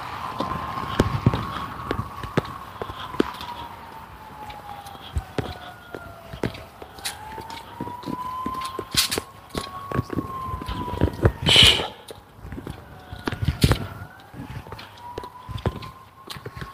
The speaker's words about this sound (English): Sirens are out in force this morning. That's a fire truck. Don't know what's on fire. Smell any smoke. They're moving well off,